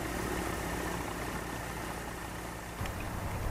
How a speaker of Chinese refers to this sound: 他们共同驾驶的飞机从我眼前快速的起飞，现在已经升上了高空中，渐渐离我们远去。 飞机轻盈的起飞，在空中平稳盘旋，慢慢消失在视野外，向远方飞去。